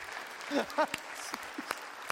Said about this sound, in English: If I think I'm going to say like your pastor said, if one person claps, everybody claps.